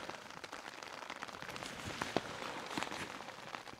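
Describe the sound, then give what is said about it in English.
Steady rain patters across surfaces and tree foliage, a dense, hissing wash with scattered sharper drips and taps, continuous throughout with no voices. “So it stopped raining for a bit and it was just the rain from the trees coming, and as soon as I'm about to pack up it started raining again.”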